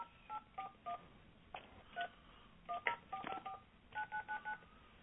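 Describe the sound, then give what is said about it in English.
A phone keypad is dialed, with a dozen or so short electronic beep tones in uneven clusters and brief pauses between groups. The tones are clear, with no voices. “No, well, I'll just pick up my other phone here.”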